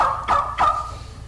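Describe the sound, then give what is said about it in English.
A wooden turkey call, performed by a man, imitates a gobble with two quick, loud rattling bursts followed by a trailing tone, clear with no voices. “This variety of calls. Made out of wood and plastic.”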